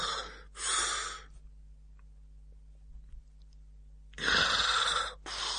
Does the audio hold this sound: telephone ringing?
no